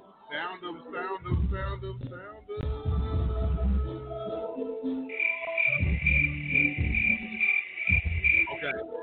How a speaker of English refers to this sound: Let me go ahead and start doing crickets.